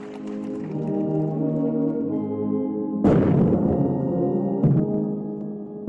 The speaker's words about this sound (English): As an army band delivered the national anthem and soldiers saluted Ramaphosa with cannons